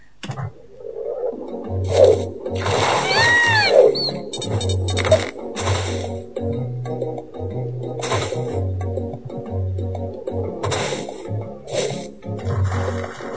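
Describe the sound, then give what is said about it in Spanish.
A game sound effect of a ball splashing into water: noisy bursts with whooshing, sweeping tones, set over a looping electronic bassline. Shorter splashy bursts recur later. “Al agua.”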